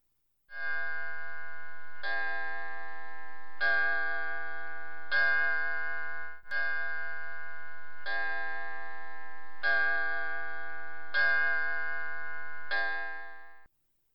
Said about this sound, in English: There goes old Quaverton. 9 o'clock and all is well. Old Quaverton? Oh, that's the clock. You named your clock?